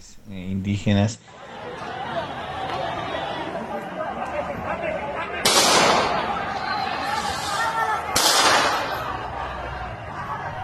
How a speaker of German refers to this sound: Die Schüsse kommen aus weißen Pickups ohne Nummernschilder. Viele vermuten, dass es sich hierbei um Polizisten in Zivil handelt.